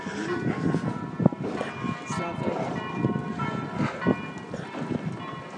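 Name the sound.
church bells ringing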